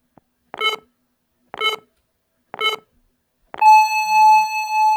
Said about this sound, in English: But if they're synchronized properly, the 57, 58, 59, and 0 beeps will all happen simultaneously, and so we should get a pretty interesting little stereo phasing effect. Let's see what happens.